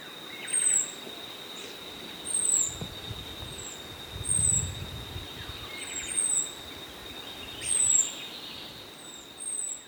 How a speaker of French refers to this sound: passons au dernier extrait, qui est comme le cri de haute alarme, là, donc lorsqu'il y a un prédateur spécifique. Oui, ce cri-là, il est pratiquement identique à celui du merle, un sifflement aigu, par exemple, lorsque un épervier passe dans le ciel.